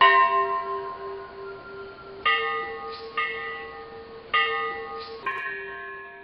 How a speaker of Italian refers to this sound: Quando la mattina seguente fu finita l'ora del Sunday School, la campana cominciò a battere a morto, anziché scampanare nel solito modo.